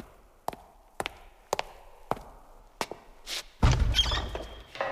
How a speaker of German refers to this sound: Er hört, wie sich eine Tür öffnet. Es ist die Tür, die auf den Kirchturm führt.